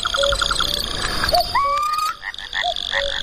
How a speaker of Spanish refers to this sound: Y ahí entran los anfibios, los sapos corredores y los bonitos de San Antonio. Ese matraqueo, la pagañera, el paga es el chotacabras cuello rojo, un ave nocturna. Que parece que está como a compás, ¿verdad? Maravilla.